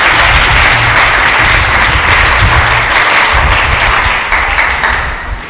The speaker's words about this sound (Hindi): यीशु के लिए इतना जोरदार तालियां बजाइए।